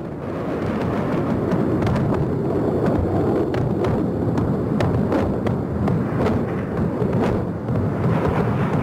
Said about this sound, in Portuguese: Novas explosões, incêndios. E o interessante observar é que apesar desse bombardeio tão intenso, a capital do Iraque, Bagdá, continua com a energia elétrica.